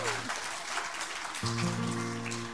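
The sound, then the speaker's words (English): Steady audience applause welcoming a woman performer to the stage, a dense crackle of many hands clapping throughout, with low sustained musical tones swelling up beneath it partway through. “We're dealing with quality now, folks, so give this lady a great big hand.”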